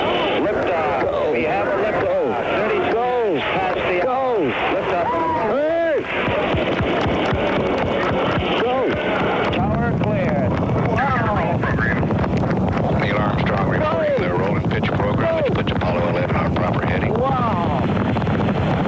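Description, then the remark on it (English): Rocket engines roar at a 1969 launch liftoff, a loud, steady, rumbling blast that fills the whole clip, with a man's voice talking over the noise throughout. “Ignition sequence start. 6, 5, 4, 3, 2, 1, 0. All engine running.”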